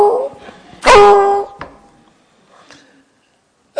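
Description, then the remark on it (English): A coon dog bays once at a raccoon up a tree, a loud, drawn-out, mournful howl, followed by a couple of softer yips and a brief quiet stretch. “Man, I feel like a coon dog that's got a coon in a tree.”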